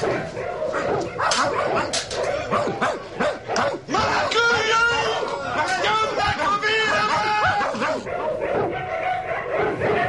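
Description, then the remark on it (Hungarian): A dog barks and yips excitedly in a rapid, continuous series, loud, with frantic whining mixed in over a busy background of voices and commotion. “Péter! Engedd ki a kutyámat!”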